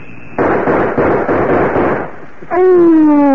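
A loud gunshot cracks out and trails into a long, harsh rumble lasting about two seconds, with faint repeated pulses inside it, before a voice cries out.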